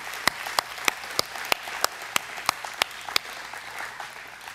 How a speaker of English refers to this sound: Give the Lord Amen. A clap.